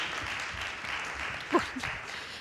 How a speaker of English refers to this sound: And our wonderful nativity characters, you can all go and sit down as well. Shall we give them a round of applause as they return to their seats? Very well done.